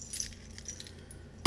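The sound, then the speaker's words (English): Keys jingle and clink in a light, scattered rattle over a low background hum, ending with a sudden loud thump or clunk at the very end. “My handbag, breath mints, and a phone. Wallet. Keys.”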